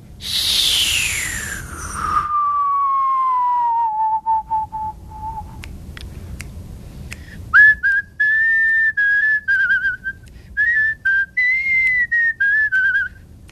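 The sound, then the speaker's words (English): A single person whistles, starting with a long note that glides steeply downward and levels off, then breaks into a wavering series of short, connected tones with small clicks between them. “So if you've been whistling and you've been hearing this wind noise that's almost whistling but not there, if you whistle downwards, you'll be able to get the note in 5 seconds.”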